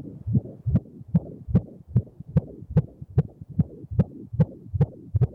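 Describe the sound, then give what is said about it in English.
A baby's heartbeat in the womb heard on an ultrasound monitor: rapid, steady whooshing pulses, roughly two or three per second, each a muffled low thump with a faint click, heard alone. “That's an incredible sound as you hear the baby's heartbeat in the womb.”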